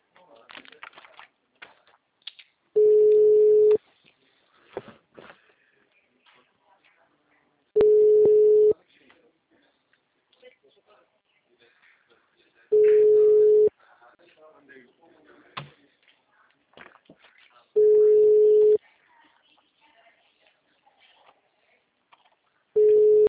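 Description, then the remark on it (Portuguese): A telephone busy signal sounds as five steady, mid-pitched tone bursts, each about a second long and spaced roughly five seconds apart, with faint voices and clatter in between. “Assim que o telefone estiver disponível, eu entrego o seu recado.”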